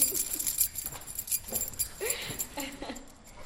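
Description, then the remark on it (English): A set of keys jingles as it is handed over at the end of a tour, a bright metallic clatter that shakes on and off for a few seconds, with faint voices and rustling in the background. “At the end of the tour, Rameau hands Pierre a set of keys.”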